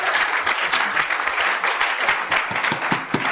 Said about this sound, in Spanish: Y si usted lo cree, déle ese fuerte aplauso. And if you believe it, praise him.